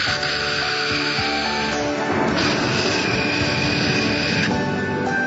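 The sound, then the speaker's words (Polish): A group of people blow and hiss together, voicing a steady, rushing whoosh that imitates wind. The breathy noise holds for about five seconds, shifting slightly in tone as it goes. “Udajemy szum wiatru.”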